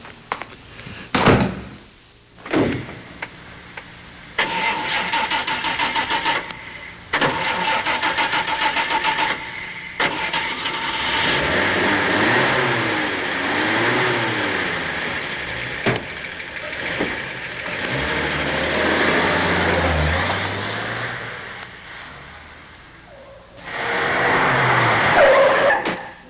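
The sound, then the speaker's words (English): A car door thumps shut, then an engine cranks and catches, idling loudly before revving and pulling away with shifting pitch; another burst of noise near the end. No voices. “Oh, why don't we just go over and look at it? I'll take you in my car.”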